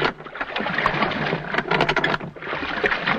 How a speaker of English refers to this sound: A lap of the water is created by using a splash box. This is a tank of water with a paddle in it, which is turned slowly to produce the sound of rowing.